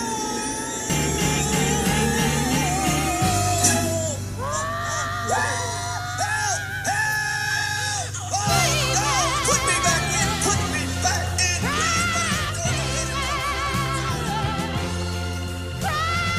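A soul song plays loud and full, with a raw, strained lead vocal wailing and bending over a steady bass line and band, sustained throughout with no speaking.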